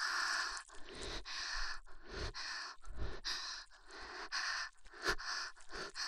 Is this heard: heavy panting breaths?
yes